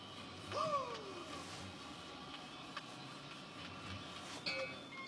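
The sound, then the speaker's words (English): A steady low rumble of a car interior while driving, with constant road and engine drone, a brief descending squeak early on and a few faint knocks and rattles. “I'm just driving a car.”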